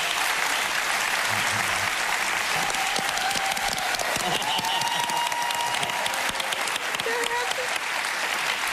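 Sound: studio audience applause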